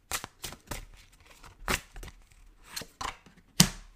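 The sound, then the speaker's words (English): A deck of cards being shuffled to draw a card of the week: a quick run of crisp, papery snaps and riffles, about ten sharp bursts in uneven rhythm, with no voices. “So I'm gonna do a quick shuffle here.”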